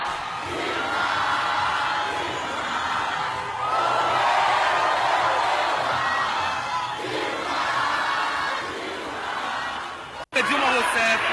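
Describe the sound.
A large crowd of party activists supporting Dilma Rousseff in Belo Horizonte, Brazil, chants for her return loudly and continuously in unison, voices blending into a dense, rhythmic roar with rising and falling phrases, then a brief cut near the end before the chanting resumes.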